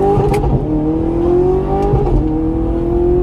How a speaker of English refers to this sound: Car's not completely warmed up yet, so can't give it all the throttle, but we'll give it a little bit.